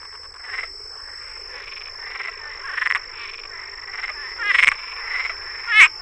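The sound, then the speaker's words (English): A Cuban tree frog, the largest tree frog in Florida, calls repeatedly with raspy, chuckling croaks in uneven bursts, the last few louder, over a steady high insect-like drone in the background. “Its call is somewhat like the chuckling sound of the leopard frog”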